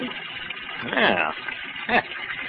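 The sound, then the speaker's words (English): A steady, hissing rush of cold water pours from a faucet without letup, splattering onto a suit, with a couple of brief vocal bursts rising over it near the middle and end. “Hey, look out for that cold water. Oh, dear, I've splattered your suit, haven't I?”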